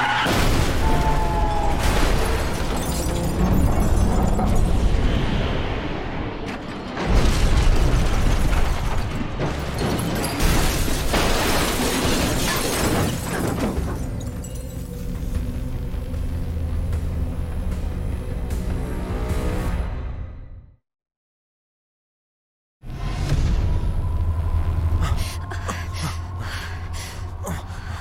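A loud, close car crash with a heavy boom and grinding, crunching mechanical clatter that rumbles on for several seconds, then a brief silence before more clattering noise resumes.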